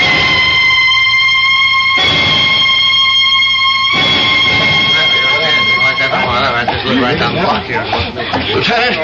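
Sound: police car sirens approaching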